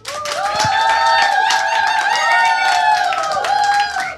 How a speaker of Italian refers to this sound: Buonasera, buonasera al pubblico a casa, ascoltatrici, ascoltatori del suggeritore Night Live, al pubblico in studio che si fa come sempre un applauso apotropaico dati i tempi brutti.